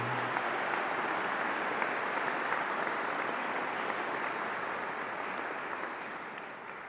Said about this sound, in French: Je demande aux lauréats de bien vouloir se lever. On les applaudit.